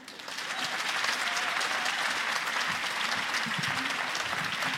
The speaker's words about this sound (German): Jetzt müsst ihr richtig viel Applaus geben für die erste im Wettbewerb. Sie wohnt in Leipzig. Macht einen riesen Mega-Applaus für Luis!